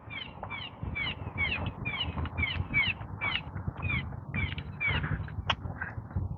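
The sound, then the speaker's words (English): A bird calls over and over outdoors, a rapid series of sharp, harsh notes repeating steadily against a rumbling background of wind or traffic. “I don't know what kind of bird that is.”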